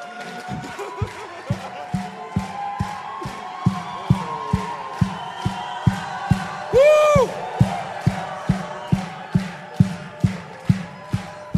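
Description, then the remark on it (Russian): A large church audience, gathered in the capital from all regions of the country, claps in steady unison, roughly two beats per second, over a roaring crowd, with one loud rising shout cutting through partway. “Весь духовный мир сейчас слышит этот хлопок, этот грохот земли, потому что здесь встает его народ.”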